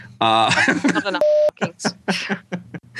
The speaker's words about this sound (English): Then not too much of that, folks. I hate putting all those beeps in.